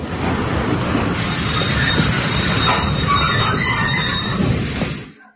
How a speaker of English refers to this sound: Hello, the train. It's coming.